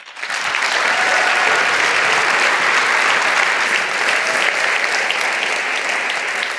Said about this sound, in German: Einen Applaus bitte.